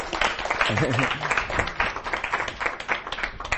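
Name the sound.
audience applause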